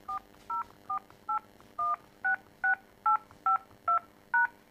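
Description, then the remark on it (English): Eleven short touch-tone keypad beeps in a quick, steady sequence as a home or business phone number, including the area code, is punched in, each a clear two-note tone over faint background hiss, with no one speaking. “Please enter your home or business phone number, including the area code, followed by the pound sign.”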